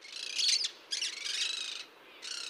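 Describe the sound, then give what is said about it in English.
Harsh, raspy monk parakeet (Quaker parrot) squawks in three bursts with brief gaps, moderately loud, with no talking. “Escaped monk parakeets now have self-sustaining populations in many areas across the country.”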